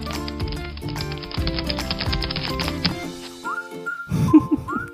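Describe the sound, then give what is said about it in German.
A cartoon-style effect of a lizard scurrying on its legs: rapid, busy tapping notes patter along over tonal music, then give way to a few quick rising slide-whistle swoops. “Viele von euch können sich diese flitzeschnellen Tierchen wahrscheinlich besser vorstellen, wenn sie das hier hören.”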